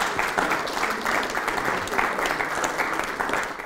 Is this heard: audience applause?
yes